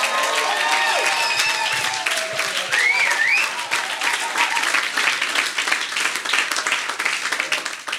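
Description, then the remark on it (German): A large audience applauds steadily for several seconds for their pastor, a dense wash of clapping with a few scattered whoops and cheers rising above it, sustained throughout. “Das ist der absolute Hammer, und deswegen gebt mal eurem Pastor mal einen fetten Applaus.”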